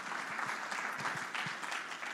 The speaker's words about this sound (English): So if we can just give them a round of applause for their stairs over here, for those of you who haven't used them before.